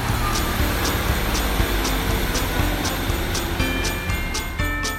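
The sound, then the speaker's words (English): A steady, loud mechanical rumble with low droning tones and periodic rhythmic clicks as a train pulls off and leaves the station platform, with no one speaking. “There is a train just about to pull off, so we'll let this train pull off”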